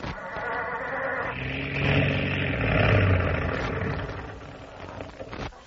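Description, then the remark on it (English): A cold car engine cranks and sputters as it's started, a rough, groaning, uneven rumble that carries on for several seconds, fairly loud with no voices. “Start the engine”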